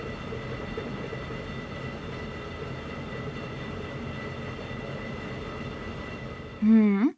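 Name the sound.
train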